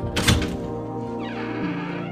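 A heavy oak door, unlocked with a small brass key, thumps, then swings open slowly with a long, low, groaning creak that shifts in pitch near the end. It is fairly loud, and no one speaks.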